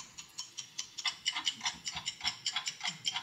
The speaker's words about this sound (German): Ich weiß nicht, ob euch das Ticken einer Uhr nervös macht. Aber wenn man eine ganze Weile hinhört, immer hinhört und sich sagt, mit jedem Sekundenschlag komme ich meinem Ende näher.